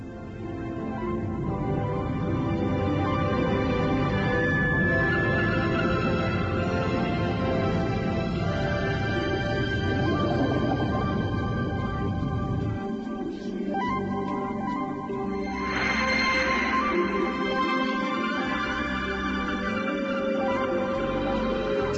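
A steady, immersive underwater video game ambience fills the whole stretch, with long sustained tones and slow, drawn-out whale calls rising and fading. No one speaks.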